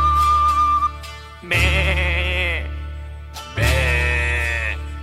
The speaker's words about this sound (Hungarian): Szomorú a birka, mert üres az irka, azért béget, azért sírni, mivel fogja teleírni.